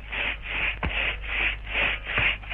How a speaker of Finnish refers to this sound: Taas sahataan tuossa puuta ihan meidän vieressämme.